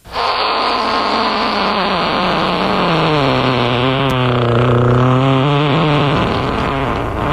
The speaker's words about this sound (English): Can I get a backwards fart?